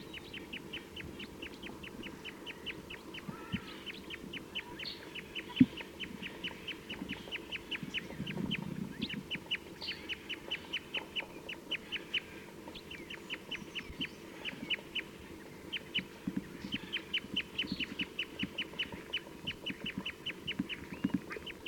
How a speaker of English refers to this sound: This recording, I've been playing back some calls to these birds and they've flown to a different tree, and there's 5 in the flock pointing at them right now.